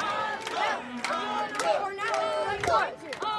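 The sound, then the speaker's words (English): A concert audience in the desert cheers and whoops loudly for a group playing Beethoven, several voices rising and falling in overlapping shouts, with scattered sharp claps mixed into the steady roar of an excited audience. “And the concert audiences weren't quite sure when to clap.”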